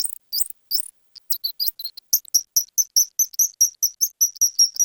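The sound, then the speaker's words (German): A rapid series of high, sharp bat calls, slowed down twofold so they sound bird-like, repeating in a fast steady rhythm and growing more regular toward the end. No voices. “was wir jetzt hören, ist nur 2-fach verlangsamt. Also das heißt, das wäre jetzt nicht komplett außer unserem Hörbereich.”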